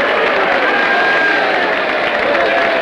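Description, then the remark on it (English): A large convention crowd cheers in a loud, steady roar of many voices mixed with clapping as audience members leave their seats, surround Judge Hardy with pats on the back and handshakes, and men rush the stage to lead him through the crowd; it holds at full volume for about three seconds. “Several men in the audience rush the stage and lead Judge Hardy through the crowd.”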